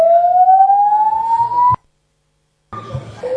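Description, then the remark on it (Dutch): A building fire alarm blares a loud, steadily rising whoop tone for nearly two seconds, cuts to silence, then starts sounding again after a short pause. “Dames en heren, dit is een brandalarm.”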